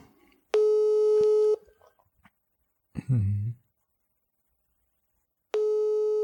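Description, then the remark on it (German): A telephone busy tone after a rejected call: two steady, loud one-second beeps with a long gap between them, and a brief low voice murmur in the pause. “Aber es geht doch ganz schön schnell an, ob er uns wegdrückt.”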